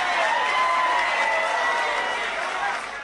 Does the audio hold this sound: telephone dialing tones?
no